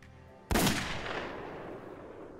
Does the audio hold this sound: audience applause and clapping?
no